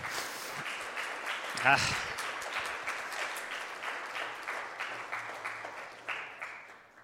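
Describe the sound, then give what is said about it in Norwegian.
An audience applauds a married couple coming forward to share their story, steadily for several seconds, a dense wash of many hands clapping at moderate volume, with a brief louder burst near the start. “Kom frem, og kan ikke vi i omsorg gi dem en god applaus, sånn at de føler at de...”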